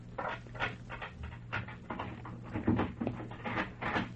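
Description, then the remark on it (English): A key rattles and clicks in a lock over several seconds, then a door is worked open with a few scraping knocks, over a steady low hum. “Ooh, here's another door.”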